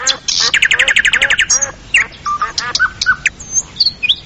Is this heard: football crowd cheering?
no